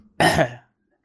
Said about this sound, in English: Clear my throat. Do this.